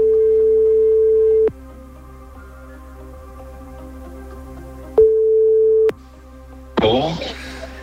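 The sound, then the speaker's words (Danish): Outgoing-call ringback tone: a steady low beep lasts about a second and a half, then after a long silence it sounds once more before someone picks up and a voice begins speaking. “Den ringer nu.”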